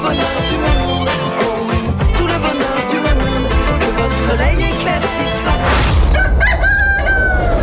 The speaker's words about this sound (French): Le chant du coq sur LN Radio, en français dans le texte.